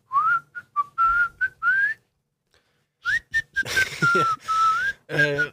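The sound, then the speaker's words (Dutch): A person whistles a catchy pop melody, two bright phrases of short and gliding notes separated by a brief pause, with a quick voiced sound at the very end. “Van die gasten met dat fluitje erin.”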